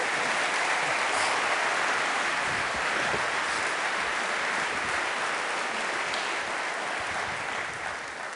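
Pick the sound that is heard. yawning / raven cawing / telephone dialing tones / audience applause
audience applause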